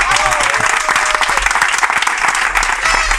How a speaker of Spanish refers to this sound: Fuerte aplauso para Miguel Martín.